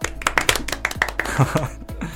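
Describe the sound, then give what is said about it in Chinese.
A brief round of applause from a small group during a live broadcast of 无名电台 (Wuming Radio): quick, sharp, irregular claps running for about two seconds, with a faint voice or laugh briefly mixed in partway through. “我觉得此处应该有掌声。”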